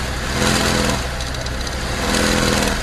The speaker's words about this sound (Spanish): Escuchemos. Así suena una correa de distribución a punto de romperse.